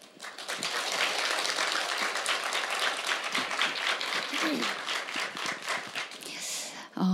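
A crowd applauds steadily for several seconds, a dense crackle of many hands clapping at a fairly loud, even level, with faint cheering mixed in before it tapers at the end.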